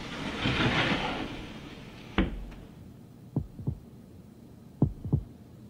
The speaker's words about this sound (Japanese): 眠れない。心臓の音、うるさい。初めてだ、こんなに興奮するのは。